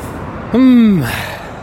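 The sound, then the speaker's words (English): A single short vocal imitation of a car passing: a voiced, harmonic grunt that sweeps downward in pitch like a Doppler shift. It is fairly loud, over light background noise. “See, compare it to that car that just went by.”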